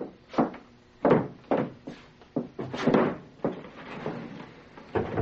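A chair scrapes and bumps across the floor as it is moved away from a door, then the door creaks and clunks open, a series of knocks and scraping movements over a few seconds.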